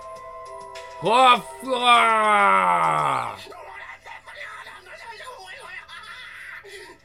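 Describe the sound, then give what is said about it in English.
A single loud, drawn-out snore from a sleeping man, apparently voiced by a person imitating it, swells and then slides downward before trailing off into a quieter, muffled background. “Startled by Lute's loud snore, him and his partners panicked and were suddenly on edge.”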